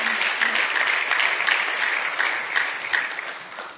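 An audience claps steadily to welcome a singer coming up to sing a couple of songs, a dense, continuous wash of many hands with no break and no voices over it, staying fairly loud throughout.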